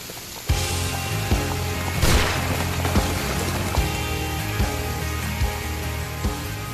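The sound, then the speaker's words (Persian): Heavy rain pours down during a storm in a dense, steady hiss that starts abruptly after a brief quiet moment, with a low rumbling drone underneath and occasional sharp thuds and splashes. “عجب بارونی خیلی شدید شده.”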